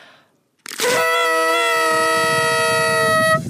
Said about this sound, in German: Und darf ich noch einmal in die Tröte blasen? Ja, und komm, wir blasen noch mal gemeinsam. Zusammen.